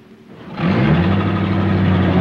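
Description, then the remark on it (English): A car engine starts quiet, then surges loudly into a steady revving roar as the vehicle accelerates away, its pitch climbing and holding strong. “He leans into the car and Richard pulls away.”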